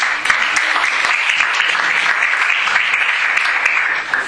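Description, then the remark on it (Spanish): Sustained applause from an audience welcoming a speaker about to present research, a dense steady patter of many hands clapping loudly and evenly throughout, with no pauses and no voices standing out. “Un aplauso, por favor.”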